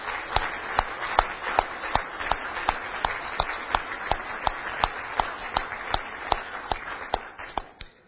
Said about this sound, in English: And I want to applaud you for your generosity, for your faithfulness, and for your trust in me and the other leaders of St Alfred's. And I think this deserves all of us to applaud and thank each other for that.